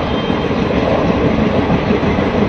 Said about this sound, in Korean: 인도 철도망의 역할은 단순히 교통수단에 그치지 않습니다. 외딴 지역의 어린이들에게 과학 지식을 전하는 교육수단 역할도 하는데요. 인도의 달리는 과학열차,